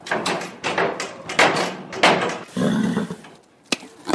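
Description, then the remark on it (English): An agitated horse kicks a wooden stable door for food, several heavy, irregular thuds with scuffling and rustling between the blows, then one last sharp bang. “As an agitated horse kicks a stable door for food before crunching a carrot”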